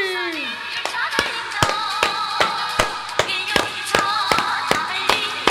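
Steady, evenly spaced handclaps beat out a regular rhythm, about two or three per second, over a bed of wavering voices that sound like cheering or chanting, as an audience is asked to give a loud round of applause to a 'beloved leader'.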